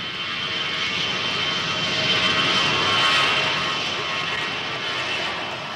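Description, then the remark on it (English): An airplane drones overhead with a steady, broad engine roar that swells slightly louder near the middle as it passes, then eases off. No voices, just the continuous hum of the aircraft. “Well, I've always been puzzled about him because, well, I mean, airplanes have been flying pretty high and they haven't come across him.”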